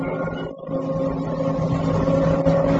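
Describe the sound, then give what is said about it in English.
A car engine drones steadily with a low, humming tone, fairly loud for a few seconds without fading, as the car leaves for the Grand Prix circuit at Brands Hatch; no one speaks. “Taking Sergeant Jackson with me, I arranged for a car and left at once for the Grand Prix circuit at Brands Hatch.”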